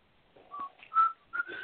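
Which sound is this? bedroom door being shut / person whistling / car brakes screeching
person whistling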